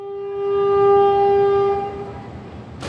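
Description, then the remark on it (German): A passenger train in Sri Lanka, on a nine-hour journey from the west to the east of the country, rumbles along the rails while its horn blows one long, loud chord for nearly two seconds, then cuts off, leaving the steady rolling rattle of the carriages. “9 Stunden dauert die Fahrt mit dem Zug vom Westen in den Osten des Landes durch die idyllische Insel, die in Form einer Träne im Indischen Ozean liegt.”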